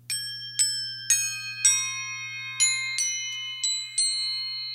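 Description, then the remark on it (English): Crotales, antique cymbals originally from Turkey that hang with a drum kit, are struck eight times in a steady, unhurried sequence. Each strike is a bright, high, bell-like tone that rings on and overlaps the next, with a low hum underneath. “So those are like high bell tones, and those, you know, originally were from Turkey, like antique cymbals, but they kind of are used more in classical music.”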